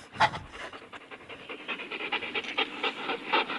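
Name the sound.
dog panting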